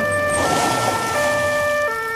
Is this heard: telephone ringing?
no